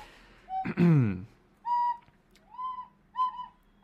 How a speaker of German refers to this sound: Hör bitte auf zu pfeifen.